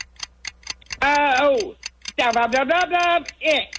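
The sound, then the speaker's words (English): A game timer clock set to 45 seconds ticks in a steady, rapid rhythm throughout, crisp, while a voice talks over it in a couple of bursts. “We'll put 45 seconds on the clock, and our time starts now.”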